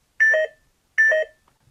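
Two identical short electronic beeps, the 'pico' sound effect of a video game, evenly spaced about three quarters of a second apart, each a bright layered tone lasting a quarter second, clean with silence between.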